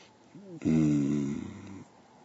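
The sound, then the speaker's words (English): One long, heavy, voiced breath, fairly loud, lasting just over a second with a raspy, snore-like rumble, preceded by a faint short breathy sound. “Oh, all this panting and breathing.”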